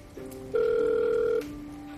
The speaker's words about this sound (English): Emily dials her phone while she stands near the fireplace.